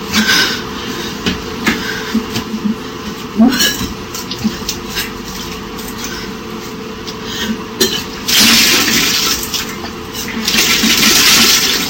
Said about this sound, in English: a bulimic girl recently videotaped herself puking up great quantities of this muck. And you know what she was doing? She had a cup and she was just sipping on water. And that's what triggered her puking.